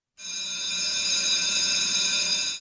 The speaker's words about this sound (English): as true as that bell rings every day at Busted Pencils during this segment, we do this every day.